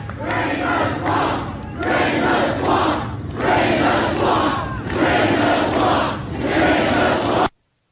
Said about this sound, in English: And that cheer was Drain the Swamp.